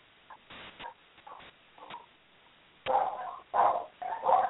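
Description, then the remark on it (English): A meeting participant's dogs bark during an online call in a quick, uneven run: a few soft, clipped yaps at first, then three louder, harsher barks close together near the end. No one speaks. “Dog.”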